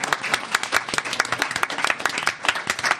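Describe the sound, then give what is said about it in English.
A sold-out audience bursts into steady applause after a panel presentation, many hands clapping in a dense, continuous patter that stays fairly loud throughout, with no voices rising above it. “So let's give our audience here a big round of applause.”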